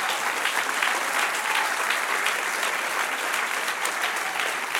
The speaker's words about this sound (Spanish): Dele un aplauso.